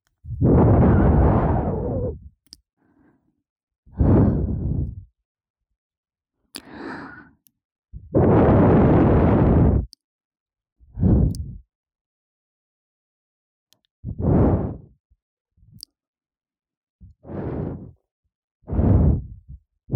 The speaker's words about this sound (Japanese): そんなに私の吐息が気持ちいいのかな。だったらもっともっとふうふうしてあげる。それで私の吐息を感じてね。